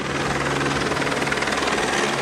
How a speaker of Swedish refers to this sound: Hör ni att det kommer en helikopter eller?